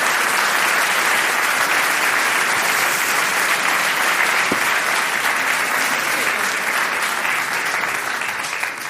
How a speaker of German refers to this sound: Hexenkessel Frankfurt. Vielen Dank für diesen frenetischen, überfallartigen Applaus. Freue mich sehr, wieder mal hier im neuen Theater in Höchst zu Gast zu sein. Ausverkauftes Haus.